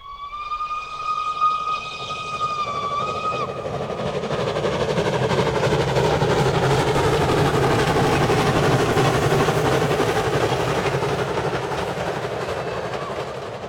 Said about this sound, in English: Dear diary, only woken 4 times last night by trains.